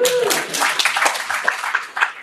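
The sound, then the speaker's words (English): An audience breaks into applause, a dense, steady wash of many hands clapping at once, fairly loud throughout, with a brief trailing voice at the very start. “You can applaud that if you.”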